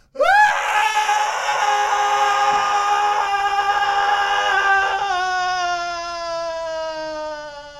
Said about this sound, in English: And then one of the sounds when shit gets pretty nuts is just the sound of a man falling down a cliff. I'll play that sound for you right now.